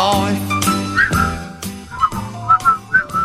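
Someone whistles a short, bouncy melody in clear, bright notes over a backing of rhythmic music with steady beats, loud, with no talking.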